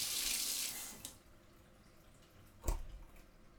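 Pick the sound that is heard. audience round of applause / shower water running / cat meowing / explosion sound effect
shower water running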